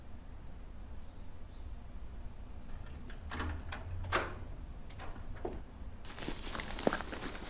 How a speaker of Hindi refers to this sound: उठो जाओ, दरवाजा लॉक करो।